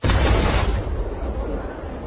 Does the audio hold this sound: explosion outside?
yes